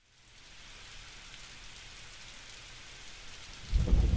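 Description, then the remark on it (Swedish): Heavy rain pours down steadily in a dense, hissing wash, with a deep rumble like thunder swelling up near the end. No voices are heard. “Regnet vräker ner och mitt hår ligger platt som en pannkaka på huvudet.”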